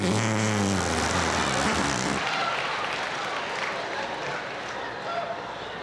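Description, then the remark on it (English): A low, buzzy arm fart squelches for about two seconds, made by pressing skin in the crook of an arm, then gives way to a steady, loud hissing rush. “And then the crook of your arm.”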